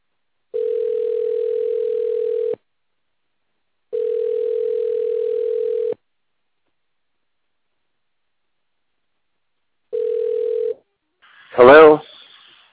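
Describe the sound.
A steady, mid-pitched telephone tone sounds in three bursts: two long ones about two seconds each with pauses between, then a shorter one, cut off as a voice briefly answers; a phone call is being placed.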